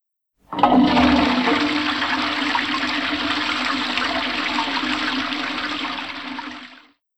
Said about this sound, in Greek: Καζανάκι.